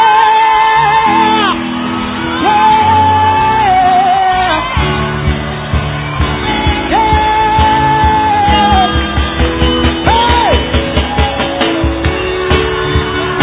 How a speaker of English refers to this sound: Hallelujah. You're not shouting for nothing.